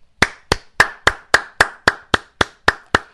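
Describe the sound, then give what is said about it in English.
A single person claps their hands about eleven times in a steady, brisk rhythm, applauding a passage just read aloud, each clap sharp and fairly loud, with no talking. “It's very rare that I applaud something I read to you.”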